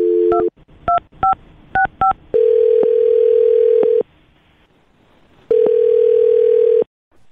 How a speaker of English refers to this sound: Well, I'm going to dial this phone up right now and see if we can figure it out for you, okay?